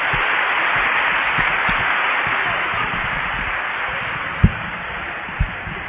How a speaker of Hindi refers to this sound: अब आदरणीय दादियां मंच पर आएंगे। जोर से ताली बजा सकते और जोर से बजाएं।